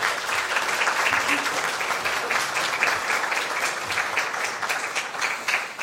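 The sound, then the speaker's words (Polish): Sustained audience applause, a dense, steady wash of many hands clapping at an even loudness for the whole stretch, with no single claps standing out. “Możecie zacząć, brawa!”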